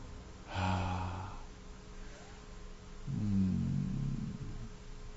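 Heavy, drawn-out breathing: a long breathy sigh, a pause, then a deeper voiced exhale, both loud and unhurried with no words.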